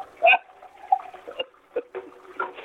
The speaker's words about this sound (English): But that water running in the background is me rinsing out my coffee mug.